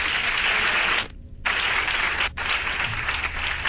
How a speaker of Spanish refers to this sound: Eso, qué bonitos aplausos.